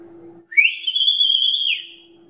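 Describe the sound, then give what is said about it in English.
A single loud, shrill whistle from a shepherd calling his sheep on a hill sweeps up, holds a steady high note for about a second, then drops off. A faint low hum sits underneath. “they would come off on the hill when they heard the shepherd whistle”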